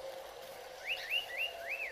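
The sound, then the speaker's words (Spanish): Birds singing in the treetops: a series of four clear, arching whistled notes repeating at an even pace, moderately quiet over a steady low background hum. “Oye el cantar de las aves desde las copas de los árboles.”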